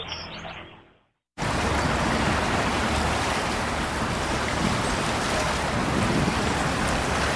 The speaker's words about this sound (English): That's the sound of the Seine River. Heavy rains have caused the river to rise, spilling over the banks in some places along its winding path.